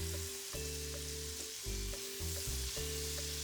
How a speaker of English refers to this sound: Heat some butter in a frying pan.